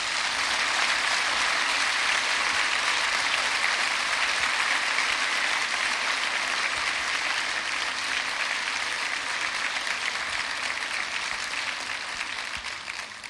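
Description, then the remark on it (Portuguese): Sustained audience applause for Nossa Senhora (Our Lady), a dense crackle of many hands clapping at steady loudness for about thirteen seconds, tapering slightly at the end with no one speaking. “Palmas para Nossa Senhora.”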